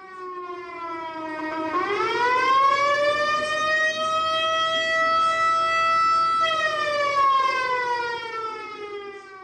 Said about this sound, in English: Burroughs recorded a 1960s siren that the Rogers PD donated to the museum.